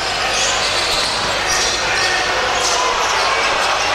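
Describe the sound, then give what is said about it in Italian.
A basketball being dribbled on a court through a series of crossover moves before a made three-point shot during a game, its bounces partly buried under the steady roar of a large crowd. “Tiro da tre Rossato, serie di crossover, buona la tripla.”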